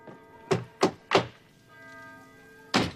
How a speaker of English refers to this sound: We open the door. You open the door, what do I got to do, break it down?